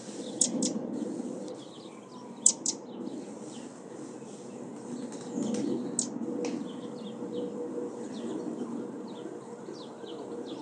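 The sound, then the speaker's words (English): Sparrows chirp in short, scattered bursts along a snowy city path, several birds calling at once, over a steady low rumble of traffic and city hum. “It's all white and lovely. Sparrows everywhere.”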